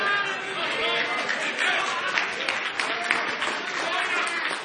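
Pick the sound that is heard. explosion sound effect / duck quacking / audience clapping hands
audience clapping hands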